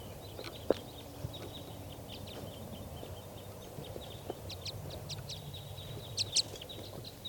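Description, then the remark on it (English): A flock of wild birds, two bright red males and two females, that has just taken off chirps and calls from nearby trees, with short bright notes scattered throughout and a couple of louder sharp calls near the end over a low steady background rumble. “So recording, the flock just took off. And they're still here in the trees. They're very near.”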